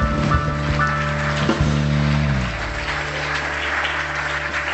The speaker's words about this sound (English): Oh, let's give the Lord a hand clap praise offering this morning.